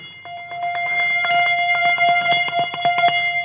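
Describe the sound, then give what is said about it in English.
Several bells from a set of 11, each tuned to a particular note, ring in quick, overlapping strikes, their bright metallic tones sustaining and blending into a steady chiming wash. Loud throughout, with no voices. “There's 11 bells, one for each person, and they're all tuned at particular notes as well.”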